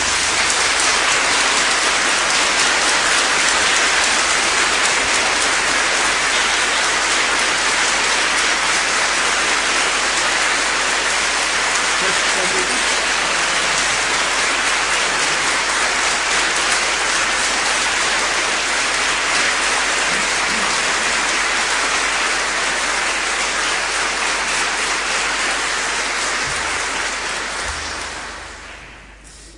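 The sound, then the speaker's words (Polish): Sustained, dense applause from a large audience for Father Piotr on his name day, a steady roar of clapping that holds at full strength for nearly half a minute before quickly dying away at the end. “Wielkie brawa dla księdza Piotra.”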